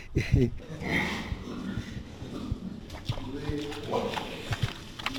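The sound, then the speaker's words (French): Pigs snort and grunt in short, irregular bursts, with scuffling hooves and rustling in the pen throughout; eight pigs in a pigsty. “Combien est-ce qu'il y a de cochons ici? Maintenant seulement 8. 8 cochons.”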